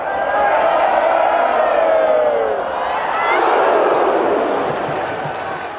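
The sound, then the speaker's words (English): A large crowd roars continuously, voices rising and falling in waves, with high shouts sliding over a dense wash of cheering that swells again near the end. “Like a piece of music that if you just sit and listen to the crowd, you hear like how it swells and dives and peaks and then suddenly bursts.”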